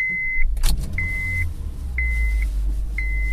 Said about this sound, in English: And, alright, the beeping of the car has stopped with the seatbelt on.